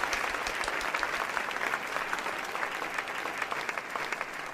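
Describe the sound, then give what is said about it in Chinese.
Enthusiastic applause from a wedding crowd as the groom's boss, a ship captain, is invited to give a speech: many hands clapping in a dense, steady patter that stays loud and even for the whole stretch, with no voices rising above it. “大家热烈鼓掌。”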